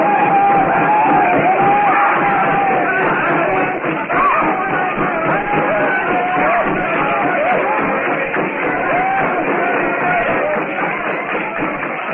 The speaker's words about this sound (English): Blazing hut casts a lurid glow over the compound. The blacks leap and yell as they circle the fire trap. At last, they've caught this white devil god of the jungle.